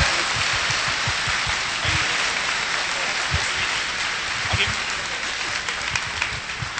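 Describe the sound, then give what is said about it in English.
A crowd claps steadily for several seconds for military bronies, fans of the show serving in uniform: a dense, even patter of many hands with no pauses, holding a fairly constant loudness throughout. “So I think they deserve a round of applause.”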